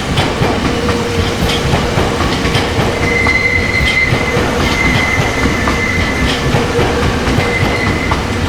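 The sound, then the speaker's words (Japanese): A JR Saikyo Line commuter train bound toward Omiya via Kawagoe pulls into platform 9, loud, with a steady rumble of wheels, faint clacking over rail joints, and a thin high squeal of brakes as it slows. “まもなく9番線に大宮方面行き、川越経由、源東の行きが到着いたします。案内ですが、比叡線の内側までお離れください。”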